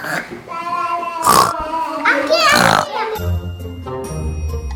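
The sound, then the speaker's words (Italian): A child's voice imitates a pig, making a few nasal, snorting oink sounds, followed by a soft tinkling bell tone with low murmuring underneath. “Che verso fa il maiale?”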